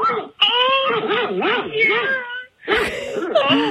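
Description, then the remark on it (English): An old male dog whimpers and yowls over a phone call in long, wavering, pitch-bending whines, two drawn-out stretches split by a short pause, loud and insistent, almost like it's talking. “I just called back so you can hear my old man dog.”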